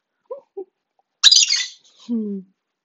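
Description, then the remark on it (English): A pet bird gives two tiny chirps, then a sudden loud, harsh squawk, followed by a short, lower whistled call. Clear, with no talking. “Oh, someone's being a cute bird.”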